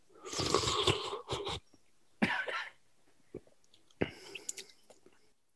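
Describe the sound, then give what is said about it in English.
Someone loudly slurps soup, taking the first taste, in a few noisy, airy bursts, with quieter mouth and chewing sounds in the pauses between them and no talking. “The first bite. I'm going to slurp.”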